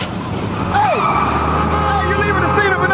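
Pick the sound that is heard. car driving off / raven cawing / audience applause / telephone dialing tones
car driving off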